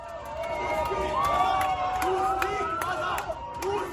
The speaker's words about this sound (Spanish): Rusos fuera, gritaban los ciudadanos húngaros en las calles.